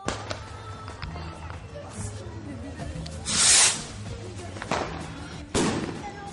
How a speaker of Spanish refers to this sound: Y compré dos cohetes blanco. Compré dos. Estos truenan. A ver qué tan buenos están.